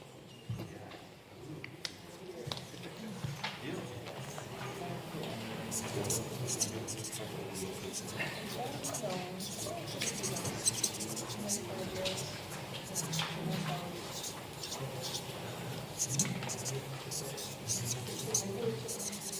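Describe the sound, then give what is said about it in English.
Pens scratching on paper as several people write at once, a steady, busy patter of small strokes throughout, with soft murmuring and whispers behind. The people are each writing down their biggest learning on a piece of paper. “Then I'd like to ask you, think about the biggest learning you had. What did you learn in LGM 25? And write it on the piece of paper you are learning.”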